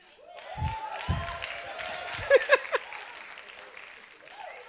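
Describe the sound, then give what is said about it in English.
The setup team cheers and screams "hallelujah" over steady clapping during setup at their new building, with a few loud, high-pitched whoops bursting out midway before the noise settles into continued applause. “That's the setup team that's screaming hallelujah.”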